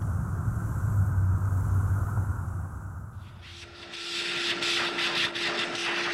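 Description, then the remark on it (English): A vacuum cleaner runs steadily on a rug, starting as a low rumbling drone, then shifting into a louder, brighter whooshing whir with a constant humming tone underneath. No one speaks. “If you vacuum that rug anymore, there won't be any thread left.”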